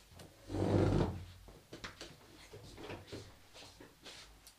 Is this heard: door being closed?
yes